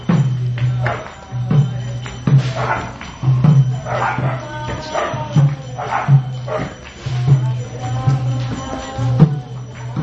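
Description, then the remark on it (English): Dogs in Vrindavan bark and yowl in repeated bursts, some stretching into howl-like cries, over a steady low droning hum that runs underneath the whole time. “Dogs in Vrindavan singing along with these guys come and bark and people are doing something, dogs want to take part, they always come along, right?”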